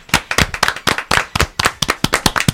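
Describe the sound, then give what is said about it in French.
A small group claps steadily in a radio studio at the end of a broadcast, a burst of sharp, uneven hand claps with no voices, sounding like a brief round of applause. “Bon, ben on applaudit également.”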